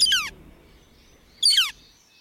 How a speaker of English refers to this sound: Now, take a deep breath and immerse yourself in the soothing sounds of this northern flicker. Don't you feel more relaxed?